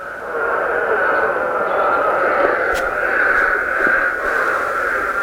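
A dense chorus of nasal, grunting bird calls overlapping into a steady, buzzy chatter that holds an even loudness for several seconds, with no voices.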